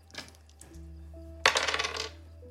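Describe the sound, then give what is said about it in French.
Dice are rolled on a table: a couple of light taps, then a bright burst of rattling clatter that tumbles for about half a second and stops. No one speaks. “Vas-y, lance les dés.”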